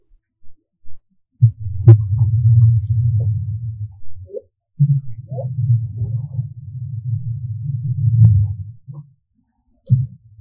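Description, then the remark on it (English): Low, muffled calls of a humpback whale mother and calf whispering to each other murmur underwater in Glacier Bay, Alaska, in long, quiet rumbling stretches, broken by brief pauses and a few soft higher squeaks, with no one speaking. “kept so many cruise ships and other loud vessels out of Glacier Bay, Alaska, that for the first time ever, Christine Gabriel, a wildlife biologist at Glacier Bay National Park, was able to hear a mum and baby humpback whale whispering to each other.”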